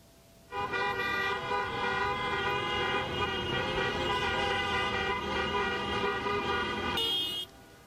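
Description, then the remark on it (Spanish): Car horns blare continuously in a street in Spain for several seconds, a dense overlapping chorus of honking from many vehicles in a protest car caravan, loud, with a higher horn joining briefly near the end. “Bien, en Madrid y varias otras ciudades de España, miles de manifestantes salieron a las calles, a pie y también en coche, para denunciar las políticas educativas del gobierno.”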